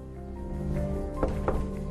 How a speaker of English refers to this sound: A White House security man strolls through a corridor and knocks.